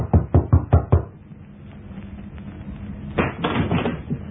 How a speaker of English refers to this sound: I walked down the stairs to the next floor and knocked at a certain door.